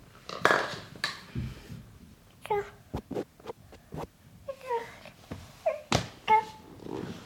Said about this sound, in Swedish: Vi har ju så mycket leksaker som möjligt som låter, så vi ska kunna leka tillsammans med henne och höra var hon är någonstans och vad leksakerna är. Så den här färgglada bollen, den låter när den studsar i marken.